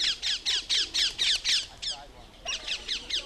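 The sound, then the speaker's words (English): Harsh, high-pitched squawks from a colony of small green feral parakeets in London repeat in a rapid, steady series, briefly pausing before another burst of loud calls. “A colony of parakeets has taken over the British capital, feral parakeets.”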